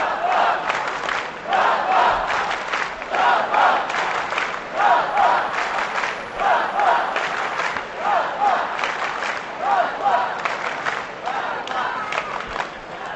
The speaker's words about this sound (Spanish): Mira, como grita el pueblo. Vamos allá.